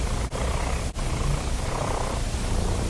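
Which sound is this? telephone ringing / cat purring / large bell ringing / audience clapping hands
cat purring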